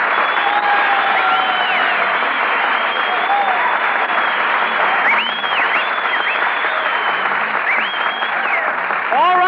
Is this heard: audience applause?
yes